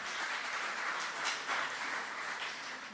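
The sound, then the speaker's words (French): Steady audience applause, a dense crackle of many hands clapping at once that holds at an even, moderate level for the full three seconds, with no voices over it. “On peut les applaudir, hein, vraiment.”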